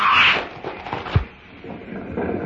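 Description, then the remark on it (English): A disruptor blast breaks through the locked doors of a building, bringing part of the building down with it: a bright hissing rush, then a single sharp, heavy thud with a deep low punch, fading into a rough, rumbling wash of noise. No voices. “The doors are locked, but I think my disruptor will take care of that.”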